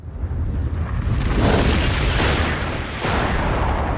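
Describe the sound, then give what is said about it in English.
A meteor explodes in a massive, loud roar, a sustained rumbling blast that fills several seconds and surges again near the end, with no voices. “There goes the meteor!”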